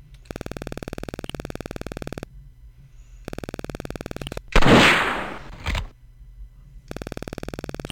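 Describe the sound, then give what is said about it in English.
In an audio shooting game set at the VCS junkyard, a buzzy, rapidly pulsing electronic target tone, which represents the size of the object, plays in bursts, broken by a loud rifle shot with a roaring, fading tail and a sharp second crack right after. No one speaks. “You will be shooting at 25 objects. You are using a rifle.”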